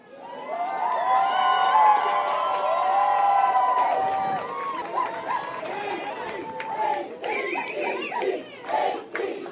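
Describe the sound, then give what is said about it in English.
A large crowd of well-wishers cheers and shouts outdoors in a wind-driven downpour in Ketchikan, welcoming the K-High Academic Decathlon team back from national competition in Texas; a loud sustained roar of overlapping voices and whoops swells, then breaks into scattered yells and calls. “A crowd of determined well-wishers braved a wind-driven downpour to cheer the K-High team's return from Texas, where they took top honors at the national competition.”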